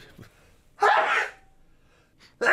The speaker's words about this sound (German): Warte, jetzt muss ich mal niesen.